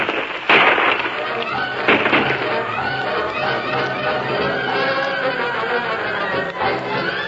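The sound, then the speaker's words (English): A dense barrage of gunfire in a shootout, two gunmen firing from behind a rock, bullets chipping the rock, with sharp loud cracks early on giving way to continuous overlapping pops and crackles, muffled voices mixed into the din. “Them two are pouring lead at us like it was a rain.”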